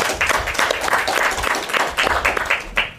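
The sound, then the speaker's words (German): An audience bursts into applause for the operators of the Sendezentrum, a steady dense patter of many hands clapping at fairly constant loudness for a few seconds, with no one speaking over it. “Ich glaube, das ist erstmal einen kleinen Applaus wert für euch, die ihr auch Nachtschichten schiebt.”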